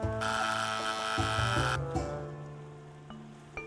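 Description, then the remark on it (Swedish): A loud doorbell rings in one long, continuous electric burst lasting about a second and a half, then its tone lingers and slowly fades, with no one speaking. “Fram tills en dag en ny granne ringer på.”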